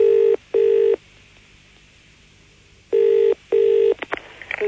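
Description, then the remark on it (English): A telephone ringing tone heard down the line as a call is placed to a Boots chemist photo lab: two short double-buzz rings separated by a pause, steady and fairly loud, followed by faint clicks as the call connects. “So we spent today ringing up Boots chemist, pretending to have given in films with dodgy pictures on them to see just what kind of things Boots think are and aren't acceptable.”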